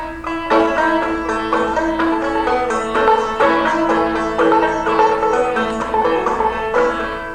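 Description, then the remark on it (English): A slow, steady chugging rhythm played on a harmonic instrument imitates a slow-moving freight train, with evenly spaced pulses repeating loudly, and no talking. “Now, freight train don't go real fast. It goes about like that.”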